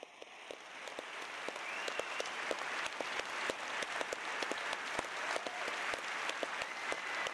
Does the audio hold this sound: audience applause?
yes